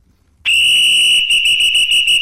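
A double brass Durinville 5000 limited whistle blows one long, piercing, high-pitched blast that starts abruptly and holds steady, turning slightly fluttery toward the end, with no voices.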